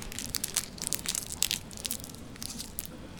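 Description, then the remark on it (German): Crinkly plastic wrapper crackling as a cough drop is unwrapped in an opera audience, a steady run of sharp, bright crackles and snaps with a few louder pops, no voices. “Hoffentlich eins, das beim Auspacken nicht so laut knistert wie dieses hier.”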